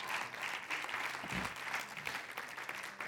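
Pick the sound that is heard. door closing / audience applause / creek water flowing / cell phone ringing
audience applause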